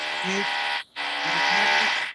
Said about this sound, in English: Sorry, that drilling here. We hear some drilling.